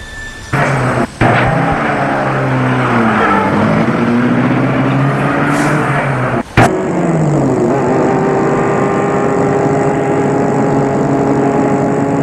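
car driving past

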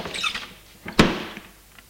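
door opening

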